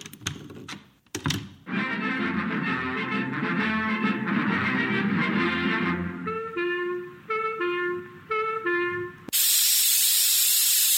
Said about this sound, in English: Ah, this doggone thing clogs up like a sentimental woman at a sad movie. What seems to be the matter, dearie? This paint spray goes along all right for a minute, but then it chokes up.